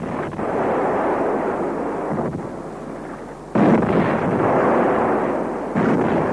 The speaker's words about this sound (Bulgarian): Топовни изстрели и пишни празненства оповестили деня, когато принц Зайн станал пълнолетен